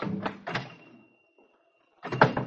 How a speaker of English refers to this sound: I came to a little shop with the Star of David in the window. I pushed open the door.